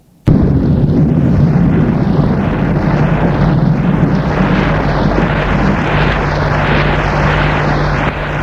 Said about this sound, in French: Tout à coup, le tonnerre, l'orage éclate.